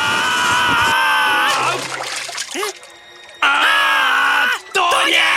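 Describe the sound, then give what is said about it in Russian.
Shrill, sustained screaming and yelling from caterpillars in waist-deep water as Luntik grabs them by the scruff and pulls them to the shore, loud and continuous, breaking off briefly in the middle before erupting again, with faint watery splashing underneath. “Но гусеницы так орали, что Лунтик без лишних слов просто ухватил их за шиворот и потащил к берегу.”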